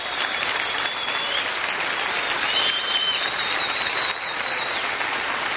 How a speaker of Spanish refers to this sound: Así que de verdad, un aplauso para todos vosotros y muchísimas gracias.